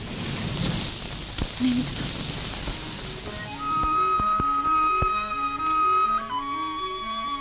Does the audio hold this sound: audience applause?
no